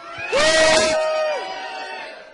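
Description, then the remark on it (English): A group of excited people in the next room, told to scream, let out a short, loud burst of screaming together, with one high voice holding its cry a little longer before it fades into a lingering echo. “We're getting noise from the next room.”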